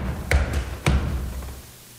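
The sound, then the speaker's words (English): Two heavy, pounding knocks on a door, about half a second apart, loud, with a faint lighter tap trailing after; no voices. “You go and you knock, but it's not that kind of knocking. It's a pounding.”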